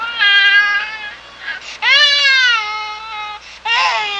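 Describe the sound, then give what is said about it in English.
A Siamese cat yowls in three long, loud, wailing meows, whiny, almost like a crying baby, with short pauses between the calls and no talking. “Sometimes it's one of those Siamese cats.”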